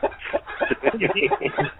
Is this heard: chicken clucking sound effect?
yes